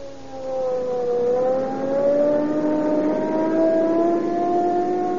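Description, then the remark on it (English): A police car on Rio Grande cracked gasoline accelerates hard from 5 to 80 miles an hour to answer a burglary call. Its engine note climbs steadily in pitch alongside a siren-like whine, loud throughout, with no talking. “Boy, I'll show you what police car performance means.”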